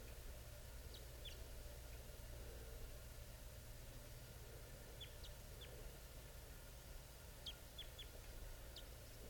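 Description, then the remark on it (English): A male wild bird, coming down from the top of a tree, chitters in a few brief clusters of quick, high-pitched notes, spaced a few seconds apart, faint over a steady low rumble and hiss. “He's giving chitter right now.”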